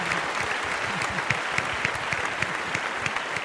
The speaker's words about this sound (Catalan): que per tant des de casa feu-li un fort aplaudiment